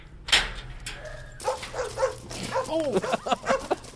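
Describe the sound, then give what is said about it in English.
A pack of tail-wagging mutts at the Kabul compound of the organization Nozad Dogs barks and yips. Short overlapping barks come in a busy, irregular cluster, with a sharp bark near the start and excited yelps toward the end. “A pack of tail-wagging mutts greet you as you pass through the towering blast walls into the Kabul compound of the organization Nozad Dogs.”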